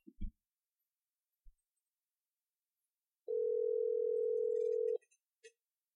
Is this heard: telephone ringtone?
yes